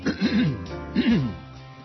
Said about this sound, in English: Well, that was nice. Wait till you come back from the break and clear your throat.